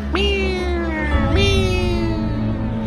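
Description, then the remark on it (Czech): A cat meows twice in close succession, each a drawn-out call that slides downward, over a low, steady background hum. “Říkala kočička svému zachránci.”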